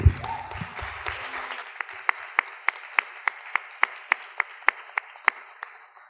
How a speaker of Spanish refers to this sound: Entonces, bueno, vamos a darle la palabra y vamos a recibirlo también con un fuerte aplauso, por favor.